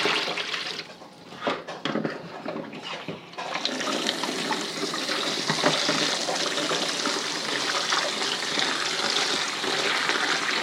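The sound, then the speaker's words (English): A few brief knocks and clatters as the pets' water dish is taken away, then a tap opens and water gushes steadily into it to rinse and refill it, a constant rushing hiss that continues to the end. No one speaks. “Now, let's do their water. Let's take that away and get some fresh.”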